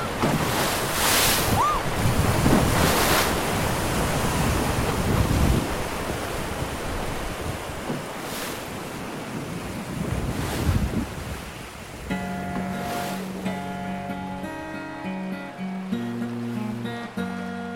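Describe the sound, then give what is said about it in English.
Loud, steady roar of rushing river rapids, churning with occasional surges, until gentle music fades in over the water for the final few seconds. “It's the word people use to describe a sudden rush of water.”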